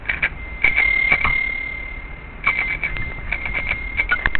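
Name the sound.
bicycle bell ringing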